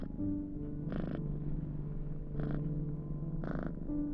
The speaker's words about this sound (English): Imogen pets Frumpkin's head and is rewarded with another deep purr.